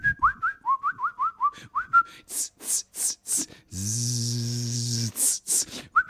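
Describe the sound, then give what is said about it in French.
A person whistles a quick run of about ten short chirps mimicking birdsong, followed by breathy hissing bursts and a sustained buzzing vocal tone. “Et vous êtes dans un jardin, vous voyez, vous êtes dans un beau jardin, avec des arbres immenses, et puis dans les arbres, des oiseaux qui gazouillent.”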